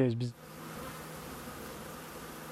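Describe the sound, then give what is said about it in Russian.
A dense, steady drone of many honeybees buzzing around their hives, kept by local beekeepers in Central Asia, continuous and moderately loud, after a brief snippet of a voice at the very start. “Если они принесут ящики, мы можем дать им пчел.”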